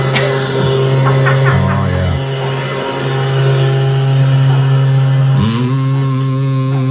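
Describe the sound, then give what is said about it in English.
Cowboy Jack Clement's leaf blower drones loudly and steadily right outside the WSM studio door, its buzzing motor tone holding a constant pitch, briefly dipping and rising again near the end. “That's his leaf blower.”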